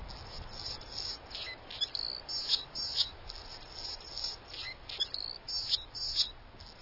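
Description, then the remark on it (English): A male Anna's hummingbird, diving in display toward a female, gives a thin, high-pitched, scratchy song of squeaky, buzzy notes repeated in quick rhythmic bursts, moderately loud over a soft background hiss, with no talking. “Listen to this male Anna's hummingbird putting his glitter to work.”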